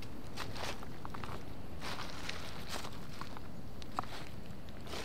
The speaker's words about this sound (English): I can hear your footsteps!